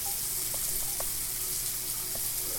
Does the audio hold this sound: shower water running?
yes